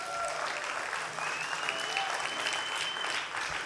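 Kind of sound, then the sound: crowd, audience clapping hands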